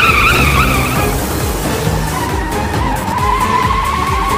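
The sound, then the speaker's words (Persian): A car's tires screech loudly in a sustained skid, the high squeal wavering over a rough engine rumble for several seconds, with no voices. “آقا ماشین ماشین.”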